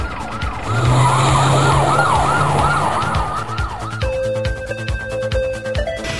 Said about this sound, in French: Tu as entendu ? C'est la police.